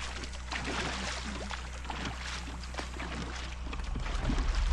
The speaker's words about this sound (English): The dipping of the oars causes little swirls in the glassy surface of the water.